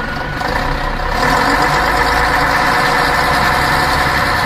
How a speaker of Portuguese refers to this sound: Tá ouvindo o motor desse ônibus aí? Quando você ouvir esse barulho do motor do ônibus roncando, é porque eu vou contar para você onde cada grupo de idosos vai participar de bailes na região.